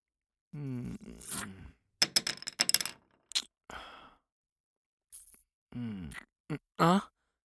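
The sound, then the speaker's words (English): A quick burst of light clicks and clatters as pencils drop and scatter across a hard surface, framed by breathy sighs and grunting vocal sounds before and after. “No, it's okay. I'll pick up the pencils later.”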